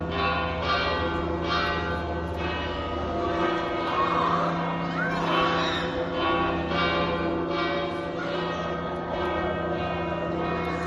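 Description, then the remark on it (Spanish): The bells of Pamplona Cathedral in Navarra peal in a steady, rapid rhythm to mark the election of Pope Leo XIV, each strike overlapping the lingering hum of the last, ringing loud and continuous from start to finish. “Y un repique de campanas en la Basílica de San Pedro, que fue acompañado también en muchas de las localidades de Navarra, como por ejemplo, así sonaban en la Catedral de Pamplona.”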